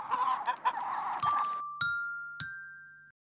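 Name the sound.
hens clucking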